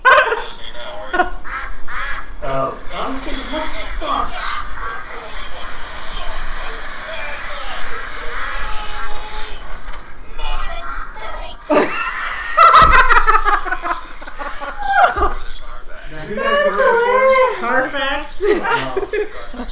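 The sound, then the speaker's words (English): Ducks quacking in a busy, overlapping chorus of loud nasal calls that run almost nonstop, with a burst of rapid, raspy quacks partway through and wavering calls toward the end. “It's the ducks and he is gone.”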